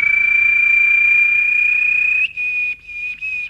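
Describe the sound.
Actor Mića Tatić whistles in imitation of a small bird, holding one long, steady, high-pitched note before breaking into a few shorter chirping bursts. The whistling is loud and clear, with no talking.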